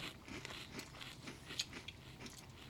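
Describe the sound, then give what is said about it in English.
Crunching of someone chewing crunchy cereal, a steady run of crisp, crackly bites with one sharper crunch midway, no talking. “Wow, it's crunchy.”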